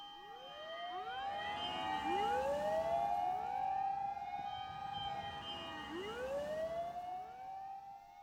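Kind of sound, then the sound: vehicle, fire engine sirens passing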